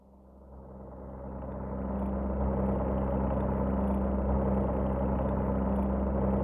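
airplane engine droning

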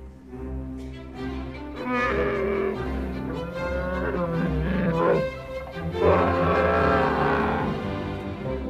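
bear growling

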